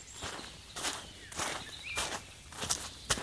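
Footsteps crunch through a forest in a steady walking rhythm, about six crisp, rustly steps, with faint bird chirps in the background and no talking, as two people walk back through the forest to a grandmother's house.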